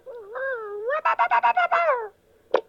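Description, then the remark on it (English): Dino, Fred Flintstone's cartoon dog, yaps excitedly: a rising, whiny harmonic yelp slides straight into a quick run of about six bouncy, pulsing barks, followed by a brief pause and a short sharp knock. “Oh, and here comes Fred's dog, Dino.”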